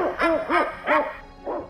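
Four soft, throaty turtle dove coos repeat in an even rhythm, each a short rising-and-falling note. The last one is slightly fainter. No voices are present.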